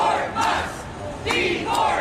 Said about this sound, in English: Protesters at a rally in Tampa, Florida against the Musk mass firings.